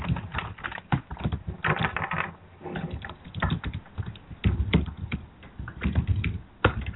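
Rapid keyboard typing, fairly loud, with irregular bursts of clacking keystrokes and brief pauses, continuing steadily for several seconds with no voices; someone is typing a message back to a woman.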